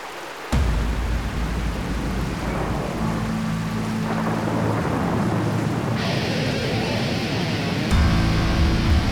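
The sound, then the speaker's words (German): A thunderstorm bursts in suddenly and loud: heavy rain hisses steadily while deep thunder rumbles and rolls through the whole stretch, with a fresh surge near the end. No voices. “Und nun lassen wir es gewittern.”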